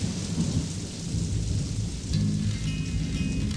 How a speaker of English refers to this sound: It's raining again.